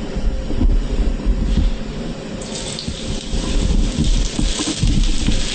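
Onion thrown into a little hot oil while preparing kulebiaki, sizzling with a steady crackling hiss with low rumbling underneath that jumps brighter and louder about halfway through, then keeps spitting continuously with no talking.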